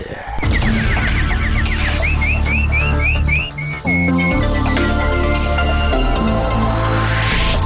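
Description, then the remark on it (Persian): A string of quick, rising bird-like chirps, a nightingale's warbling sound effect used to open a news segment, repeats in bursts over a loud, sustained musical backing, with a brief dip before the tones continue to the end. “اینک مشروع خبرها با چهچهه مستانه همکارم بلبل.”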